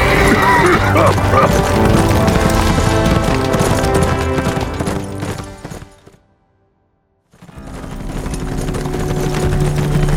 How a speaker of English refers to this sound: as they galloped away from the fire, surrounded by Snell and his men.